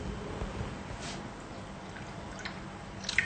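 Water is poured steadily into a pot of barley stew, a soft continuous splashing with a few brighter drips and gurgles near the end. No one speaks.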